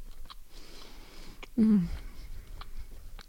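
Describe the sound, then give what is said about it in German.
Quiet chewing with a few soft wet clicks and lip smacks, broken midway by a brief low murmur or hum from the mouth, against faint room noise. “Während ich kaue. und schmatze.”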